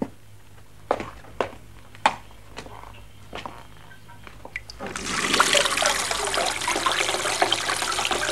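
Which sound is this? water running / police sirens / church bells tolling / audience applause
water running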